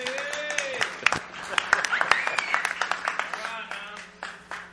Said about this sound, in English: Yeah, all right, y'all give him a clap offering here.